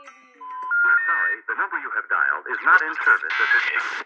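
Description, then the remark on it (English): Tinny hold music heard while calling a psychic's phone number, a thin, band-limited melody of sustained electronic tones and wavering, voice-like notes that runs steadily for a few seconds. “This is actually the music I heard over the phone, and the psychic character seemed to be a fraud, like she was played as a joke.”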